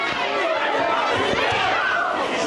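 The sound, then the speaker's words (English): A loud, agitated audience of protesting students fills the space with overlapping shouts, voices and clapping, a dense, steady roar with sharper bursts. The noise grows louder as police wrestle a protester to the ground at the University of Colorado during a vote on investigating whether Churchill should be fired. “The clapping and shouts grew louder as police wrestled a particularly noisy protester to the ground.”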